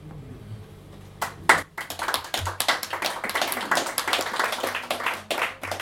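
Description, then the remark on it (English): After a moment of near silence, an audience breaks into applause after a poetry reading: many hands clapping in a dense, steady patter that stays fairly loud and even until the end, with no voices. “I'm gonna get spoiled and used to the applause and then I'm gonna go home to the States and show up to a reading and it'll be me and the bartender.”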